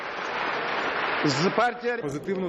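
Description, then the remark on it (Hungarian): Members of the Ukrainian parliament applaud a vote repealing a law that banned anti-government protests: a dense, steady wash of clapping from many hands, with a voice starting to speak over the continuing applause about halfway through. “A szavazást tapssal fogadták a képviselők.”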